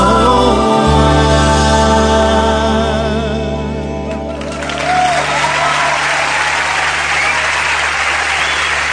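Music with sustained tones fades out and gives way to loud, steady audience applause, a dense wash of clapping that continues for the second half with no voices over it.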